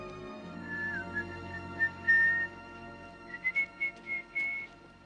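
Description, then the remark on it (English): Someone whistles a short melody, a few sliding held notes followed by a quicker run of separate pitched notes, moderately soft over a low steady background hum. “Funny how it didn't surprise me that he was late, even though he knew I was waiting in a part of town where it's not advisable to just stand around whistling.”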